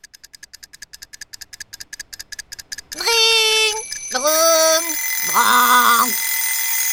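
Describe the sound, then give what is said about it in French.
Three alarm clocks ring at the same time: a clattering alarm bell rings in fast, steady pulses, then several loud warbling electronic alarm tones pile on top of each other in a noisy, overlapping din. “Les trois réveils de Marie-Louise Grignotte sonnèrent en même temps dans un vacarme épouvantable.”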